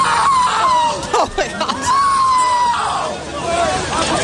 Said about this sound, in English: Listen to this man scream.